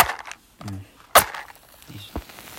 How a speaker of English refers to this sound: So we're going to light a match. You know, I hear the sound of the match lighting.